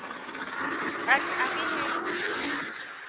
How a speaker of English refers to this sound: There's so many cars out here, testing and stuff. If I come outside, you can't hear me.